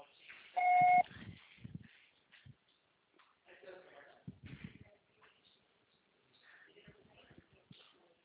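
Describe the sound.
A single loud, steady electronic beep lasting under half a second, like a voicemail tone, followed by a person speaking over faint phone-line hiss.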